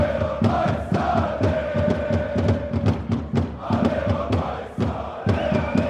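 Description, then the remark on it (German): A football crowd roars and cheers continuously after a winning goal two minutes before the end of the match, a dense wash of many voices with shouts rising above it and sharp bursts like claps or thumps scattered throughout. “Und als 2 Minuten vor Spielende sogar noch der Siegtreffer fällt, ist der Jubel sowohl bei der Mannschaft wie auch unter den Zuschauern riesengroß.”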